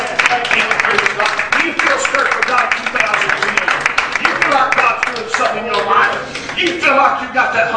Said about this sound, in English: Let's give him a good hand clap.